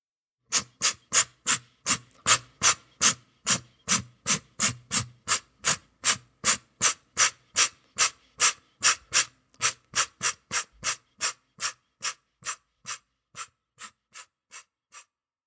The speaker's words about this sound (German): Es ist ein Igel bei der Brautwerbung. Laut schnaufend versucht das Männchen, sich durch ausdauerndes Knuffen ein paarungsbereites Weibchen gefügig zu machen, das sich zunächst mit seinem Stachelkleid gegen allzu ungestüme Annäherungsversuche verwahrt